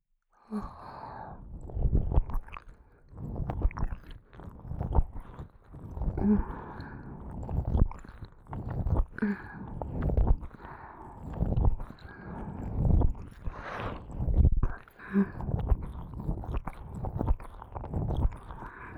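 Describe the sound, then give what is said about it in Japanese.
Rapid, wet mouth sounds of ear licking at an increased speed: smacking and slurping in a quick, steady rhythm that carries on without pause for the whole stretch, with no talking. “ご主人様のお望み通り、今より速度を上げて耳を舐めてあげます。”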